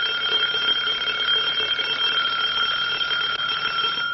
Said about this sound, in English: turn that damned alarm off.